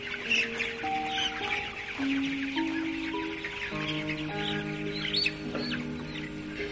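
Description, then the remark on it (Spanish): A flock of chickens clucks and murmurs continuously, with overlapping calls and occasional sharper squawks, moderately loud, as a man walks among the hens toward a chest freezer, with no one talking. “Tomás avanza entre las gallinas hacia el arcón frigorífico.”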